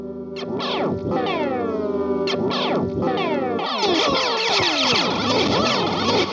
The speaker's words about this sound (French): J'aime beaucoup utiliser la pédale de delay comme ça, c'est-à-dire la faire tweaker, c'est-à-dire faire partir le delay en Larsen. Voilà, c'est un effet que j'aime beaucoup et que j'utilise à deux reprises dans le morceau, à la fin